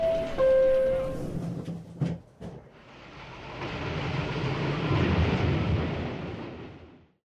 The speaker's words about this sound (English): This is the air train to JFK Airport. Please watch the closing doors.